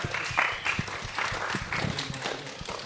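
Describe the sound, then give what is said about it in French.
An audience applauds guests as they take their seats, a dense patter of many hands clapping at a steady moderate level for a few seconds, with no one speaking over it. “Et on peut d'ailleurs les applaudir le temps qu'ils s'installent.”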